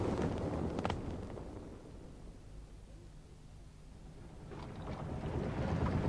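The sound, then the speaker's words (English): A boat's auxiliary engine runs at sea, a steady low rumble droning beneath rushing wind and water noise, swelling louder at the start and end with gusty bursts, no voices present. “I've got the auxiliary engine going.”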